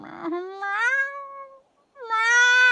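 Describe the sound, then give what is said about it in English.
A cat meows twice, loud: a long, drawn-out meow, a brief pause, then a second, higher meow. No one speaks. “And now I'm a cat, and it's Halloween. And I'm a cat. Meow.”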